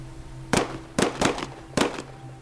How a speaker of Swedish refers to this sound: De började skjuta. Det small ganska högt